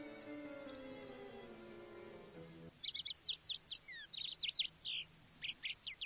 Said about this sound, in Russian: Жаворонков голосок то перекатывается круглыми шариками в раскаленном небе, вниз и вверх, бьется золотыми бубенчиками